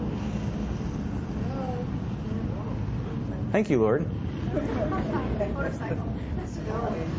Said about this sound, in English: It's a fleet of motorcycles, my word. Wow. Thank you for those drivers who are interrupting me right now.